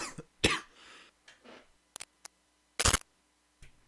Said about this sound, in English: You all right? Sorry. Yes, I had to cough.